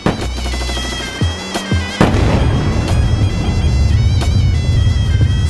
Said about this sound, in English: Night of 13th. To 14th of July 2006, 4 a.m. The Israeli Air Force flies over Beirut. Far away, we hear bombs falling down. Silence. We begin to hear shots far away.